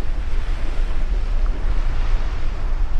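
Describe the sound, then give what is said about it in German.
Strong wind roars steadily off the Atlantic onto the coast of the island of Tierra del Fuego, at the southern tip of Argentina, buffeting the microphone with deep rumbling gusts while surf churns underneath, loud and continuous with no voices. “An der südlichsten Spitze Amerikas, im äußersten Süden von Argentinien, auf der Insel Feuerland, wo der Wind über den Atlantik an die Küste peitscht und die Menschen selbst im Sommer eine Jacke tragen”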